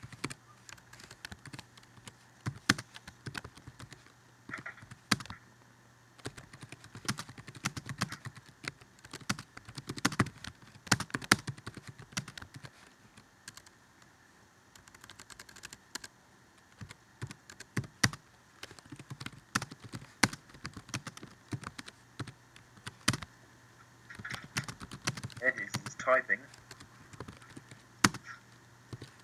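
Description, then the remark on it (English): Steady typing on a computer keyboard in a chat, with irregular bursts of quick key clicks and short pauses over about half a minute, no voices. “Typing.”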